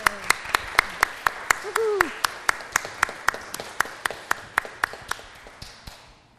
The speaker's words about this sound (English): You may be seated, and we can clap in celebration.